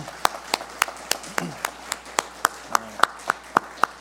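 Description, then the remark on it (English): An audience's round of applause for military veterans on a Fourth of July morning, heard as a steady run of about fourteen sharp, evenly spaced claps over a softer wash of clapping and faint voices underneath. “If you've served in the military at any time, and let's give these men a round of applause.”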